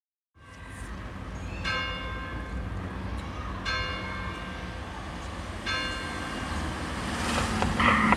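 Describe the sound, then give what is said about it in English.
A bright, ringing school bell tone, recorded in Paris between a church and a school and manipulated into music, strikes three times at steady two-second intervals, each hit decaying over a constant low rumble of traffic-like noise that slowly swells toward the end. “few seconds, from …, …”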